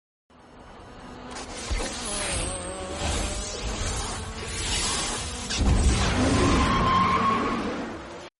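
A racing car roars and accelerates hard, its engine pitch sweeping upward with screeching tires, then a sudden loud whooshing surge of extra speed near the end as the racer pushes the nitrous oxide (NOS) button. Loud and continuous, with no talking.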